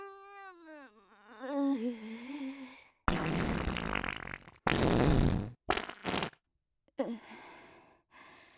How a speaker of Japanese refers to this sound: あのさ、悪いんだけど、あと一発おならしていい？本当に、あと一発だけ。次のサービスエリアまで我慢するから、ね。